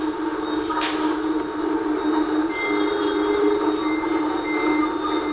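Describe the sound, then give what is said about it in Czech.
A steady, loud roar of dense motorbike street traffic in Vietnam, engines droning together without pause, with a few thin whining tones riding on top and no voices. “Tak, tady mám jenom takovou ukázku, abyste si mohli představit, jak vypadá ten vietnamský proud dopravy, přes který musíte přecházet, přes tu silnici.”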